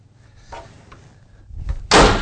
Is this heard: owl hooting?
no